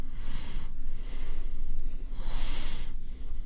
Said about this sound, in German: Da schnauft er nur.